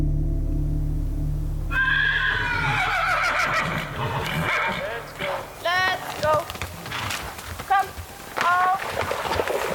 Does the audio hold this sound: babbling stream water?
no